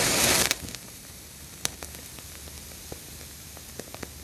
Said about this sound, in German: Warte mal kurz, ich möchte mal jetzt die Kippe anzünden. Und da baue ich dann so ein ultra fettes Feuerzeug, so eine Flamme drunter.